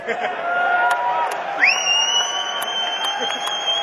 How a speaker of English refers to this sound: I wouldn't clap too loud yet, you ain't heard it.